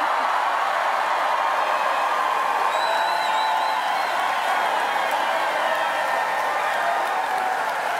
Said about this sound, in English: Now, that is what you call a crowd response. I don't know, but oh, yes. It's exciting just to listen to it, how just incredibly hopeful and engaged people are.